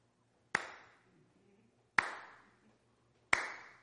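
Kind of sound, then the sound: human body sound, hands clapping together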